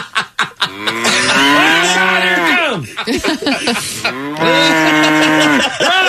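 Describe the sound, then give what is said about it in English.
A cow moos loudly, two long drawn-out lows separated by a short pause, with a few brief clicks and shuffling sounds at the start. “I got a bad cow.”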